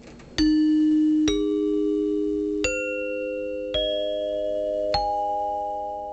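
Five clear metallic chime notes struck one after another, each ringing out and overlapping the last as the pitch steps upward, close and fairly loud with no talking.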